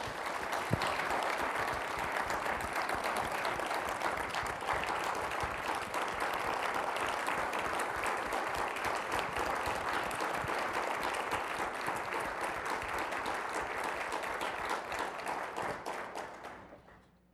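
Sustained applause from an audience, a dense steady wash of many hands clapping for about sixteen seconds before tapering off at the end.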